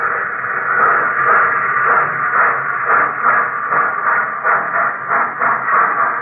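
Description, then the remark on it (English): Modern railway locomotives in Sverdlovsk, a railroad center in the Soviet Urals, roar and grind steadily, a dense mechanical din with faint metallic squealing and small pulsing surges in loudness throughout, with no voices. “And where the icy wind whistled over the solitude of the lonely village, now there is the sound of modern locomotives.”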